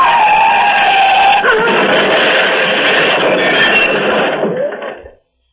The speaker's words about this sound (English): The car has crushed against one of the cylindrical bridge supports. Rammed against it head on.